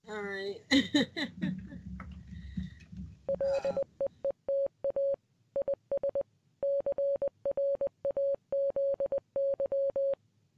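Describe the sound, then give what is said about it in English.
A steady single-pitched tone keyed on and off in short and long bursts, sending Morse code for several seconds after a brief stretch of talking and laughter. “So there is my Morse code.”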